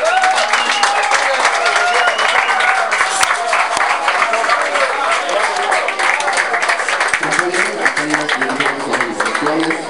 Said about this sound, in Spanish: Recibémoslo con un fuerte aplauso.